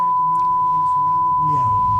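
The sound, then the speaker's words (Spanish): A steady, unbroken beep tone holds one mid-high pitch for the whole two seconds, loud and constant, while a faint murmur of voices runs underneath; a long beep on Chilean radio. “Ya, el pito más largo de la historia de la radiofonía chilena, ¿no?”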